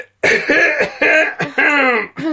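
A woman coughs four times in quick succession on request, loud, each cough hoarse and voiced, with short gaps between them and no talking.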